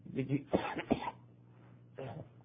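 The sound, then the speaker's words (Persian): A program presenter, whose voice and throat are troubling him, clears his throat and coughs in a quick burst of several rough, harsh bursts, then a pause and one more short cough near the end. “اگر سرفه‌های متعددی خواهم داشت در طول برنامه، در شکل پیشا پیش از شما عزیزان بیننده بنده عذرخواهی میکنم.”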